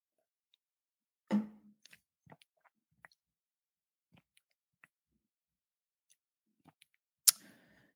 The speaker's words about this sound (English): I'm going to give my voice a break and take a sip.